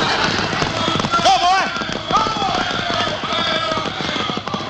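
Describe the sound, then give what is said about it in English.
Horses just freed from a wagon gallop away hard in a dense, steady clatter of hoofbeats, loud throughout, with brief shouting voices rising over the pounding early on. “They got the horses off the wagon. Get after them.”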